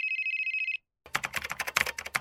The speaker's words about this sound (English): Oh, wait. My phone is ringing. My mother's calling me.